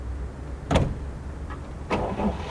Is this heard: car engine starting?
yes